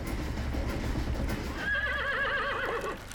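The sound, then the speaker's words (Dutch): Dense, rhythmic hoof clops fill the first half, then a horse lets out a loud, wavering whinny that trembles on for over a second, clear. “Na de oorlog hadden wij nog steeds een paard dat het schip voorttrok.”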